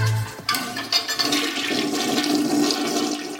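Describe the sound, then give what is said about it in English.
A toilet is flushed while being checked during a house tour, with a sudden rush of water that swirls loudly and steadily, a broad hissing gurgle sustained for several seconds with no voices over it. “Let's check out this toilet.”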